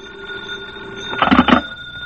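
signal or alarm, telephone bell ringing

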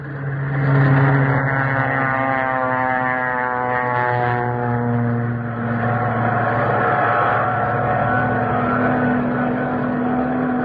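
vehicle, warplanes taking off

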